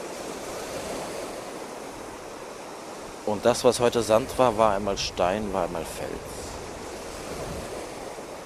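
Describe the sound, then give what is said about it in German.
Baltic Sea waves wash onto the shore in a steady, broad hiss of surf that never fully breaks off, while a voice speaks briefly over it midway through. “Die Wellen hat das nie gestört. Kontinuierlich. Und in ihrer Kraft auch unerbittlich strömen sie hier auf das Land.”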